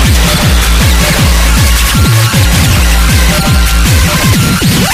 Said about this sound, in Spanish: Puro ruido, pura distorsión, puro sonido digital, súper brillante.